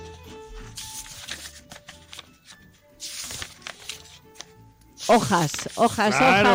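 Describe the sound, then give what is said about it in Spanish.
Book pages are turned one after another in a few separate soft paper swishes, before a louder voice cuts in at the end. “Hojas que están pasando, y sí.”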